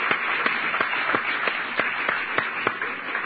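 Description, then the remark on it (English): An audience claps hands together, a steady rhythmic beat of sharp claps rising above a dense wash of crowd applause, fairly loud and filling the room. “Can we give a hand clap?”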